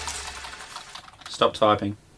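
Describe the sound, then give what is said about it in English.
Quick, light clicking of keys on a computer keyboard for about a second, followed by a short burst of someone speaking. “Stop typing.”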